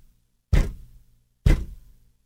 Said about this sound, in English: They have been drilling into this building for the last 2 weeks, so all you hear as you're working is...